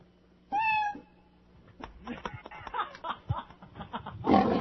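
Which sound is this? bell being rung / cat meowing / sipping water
cat meowing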